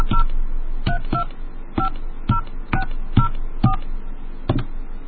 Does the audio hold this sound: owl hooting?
no